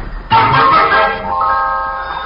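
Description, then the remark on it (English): A telephone rings once, a sudden bright, metallic tone with layered harmonic overtones that holds for about two seconds before slowly fading, with no voices over it. “The phone.”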